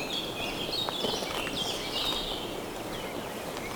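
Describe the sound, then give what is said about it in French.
A dense chorus of birds sings loudly and continuously in a fir forest, high chirps and trills overlapping over a steady outdoor hiss, with no one speaking. “La sapinière protège les oiseaux qui s'égosillent.”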